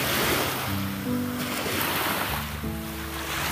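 nature, ocean waves breaking

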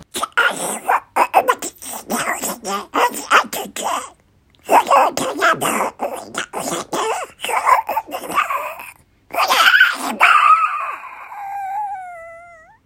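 human body sound, sneezing

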